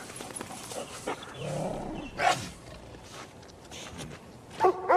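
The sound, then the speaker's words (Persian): A dog barks a few times in short, irregular bursts, with a rough, growly low sound in between. The barks are moderately loud, and no one speaks. “داش چرا اینقدر وقوق میکنی؟ هی ساکت باش.”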